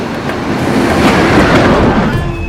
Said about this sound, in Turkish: Tren garı. Perona bir tren geldi.